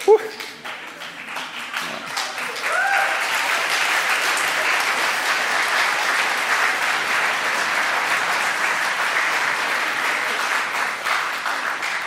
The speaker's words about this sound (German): Wenn ich jetzt überziehe, liegt es daran, was ihr geklatscht habt.